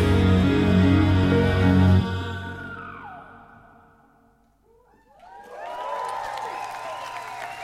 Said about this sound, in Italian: E questi sono gli applausi del pubblico berlinese.